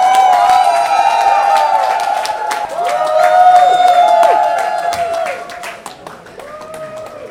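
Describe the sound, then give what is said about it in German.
A crowd holding small Austrian flags and wearing red masks claps and cheers loudly and steadily at the first flight of Austrian, with high whoops and whistles rising and falling over dense, rapid applause that eases off slightly toward the end. “Freuen Sie sich, dass Sie heute hier wieder stehen und diesen Jubel auch hören?”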